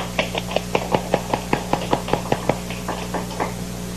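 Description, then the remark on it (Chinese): Applause from company staff welcoming a lecturer, in a quick, even rhythm: about twenty sharp, crisp claps at a steady pace, fading slightly toward the end, over a low constant hum, with no talking. “那接下来呢，我想我们用热烈的掌声欢迎林博士。”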